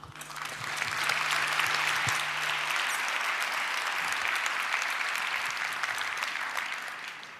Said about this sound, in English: Give a big applause